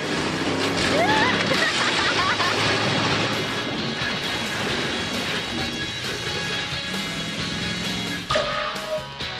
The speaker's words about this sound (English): Actually, they wouldn't let me crush any of the cars. It takes a lot of training. Now we're ready to crush some cars. But they would let me experience it from the passenger seat.